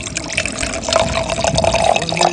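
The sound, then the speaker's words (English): Wine glugs and splashes steadily into a glass at a wine tasting, a continuous pour whose pitch rises gently as the glass fills, with no talking over it. “Let's pour a glass of this right now.”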